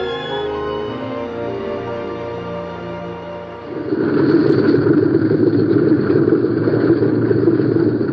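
A propeller plane's engines drone with a steady, buzzing hum, then shift partway through into a louder, rougher rumbling roar that holds to the end, as the plane comes to a halt on the runway and its spinning propellers slowly stop. No voices.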